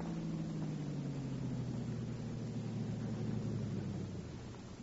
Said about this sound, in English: Car coming.